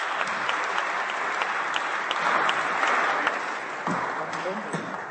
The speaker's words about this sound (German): Dankeschön fürs Mitmachen, ja, euer Applaus, vielen Dank.